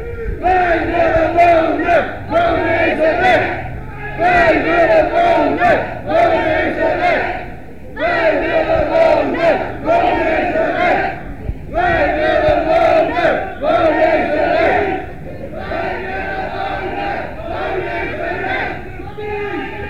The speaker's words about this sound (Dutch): De demonstratie trekt voorbij. En ik loop maar even mee.